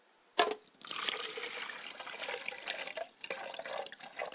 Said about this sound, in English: I pour a glass of water for my mother's side of the family, and I say, Ashe.